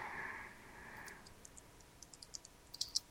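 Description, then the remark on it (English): Soft, irregular computer keyboard clicks in the background as someone searches online for the name of a 1980 Olympic speed skater from Wisconsin, starting after a brief muffled hum and tapping in uneven bursts that grow a bit quicker and sharper toward the end. They are faint, with no voices. “Somebody I can hear in the background is typing, trying to find out who it is.”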